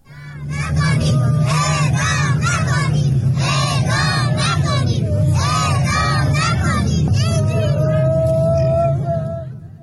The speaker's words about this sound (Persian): در ویدئوهایی که از این تجمع منتشر شده صدای گریه برخی زنان حاضر در تجمع شنیده می‌شود و کودکان نیز فریاد می‌زنند اعدام نکنید.